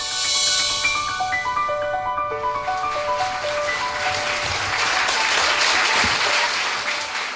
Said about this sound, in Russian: Вот вы мне аплодируете, я всякий раз иду как на плаху, боясь, что я полностью на это... Уж на этот-то раз я точно провалюсь.